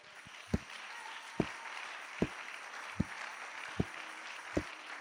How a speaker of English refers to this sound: Hallelujah. Now that you clapped, I'll tell you what it means.